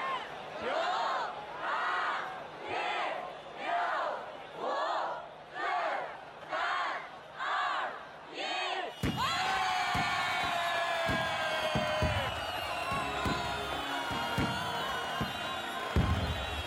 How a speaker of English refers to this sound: I need lozenges from too much cheering. Yeah, there's a lot of cheering going on. It's great. The atmosphere is amazing.